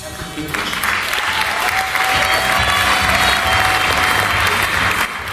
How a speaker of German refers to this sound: So hört sich Ihr Applaus an. Die Freude bei den Schülerinnen und Schülern des Richard-Wossidlos-Gymnasiums aus Waren-Müritz ist groß.